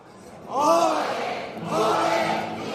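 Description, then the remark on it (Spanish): An audience in the front rows of a theatre's stalls shouts "olé" in two long, swelling cheers, the first rising and falling, the second held steadily to the end, many voices blending into a loud, full-throated chorus. “Pues ole, que le gritan también desde esas primeras filas de este patio de butacas.”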